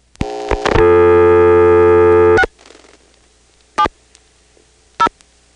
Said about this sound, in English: So let's see what happens if we pick up a touchtone phone in Dale City in August 1977 and dial 670.